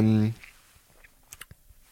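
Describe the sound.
A brief voiced sound opens, then a few faint wet smacks of chewing click out in quick succession near the end, with quiet gaps between them.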